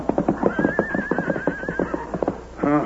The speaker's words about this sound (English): Horse. Horse still alive.